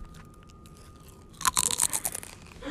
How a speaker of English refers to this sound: Mom, into the mic, I want you to say, it's a chip, and chew on it very loudly.